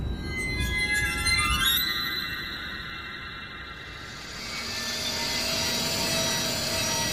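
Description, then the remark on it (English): An ice drill boring through ice: a steady, loud mechanical whine with a rising high-pitched tone at the start, settling into a continuous grinding roar with a rough low rumble underneath. “I have used ice drills before.”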